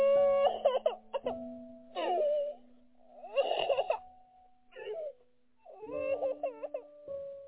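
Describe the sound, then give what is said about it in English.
A baby fusses and cries in several short, wavering wails with brief pauses between them, over a faint steady hum. “Oh, shh. …, you hush now. You don't have to worry.”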